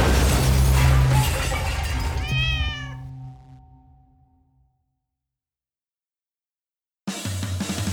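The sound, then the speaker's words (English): A cat lets out a drawn-out, wavering meow over a loud burst of clattering, crashing noise, then everything fades to silence before another harsh burst of noise cuts in. “In the meantime, here, kitty, kitty. Here, kitty!”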